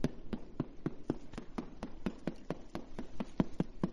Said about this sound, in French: Ils vont à battre avec un petit marteau les moules de Parmigiano Reggiano. Entendez?